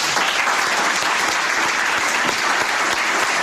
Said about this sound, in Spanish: Hoy queremos agradecer su trabajo y su dedicación durante aquella época, y pienso que la mejor forma de hacerlo es dedicándole un aplauso.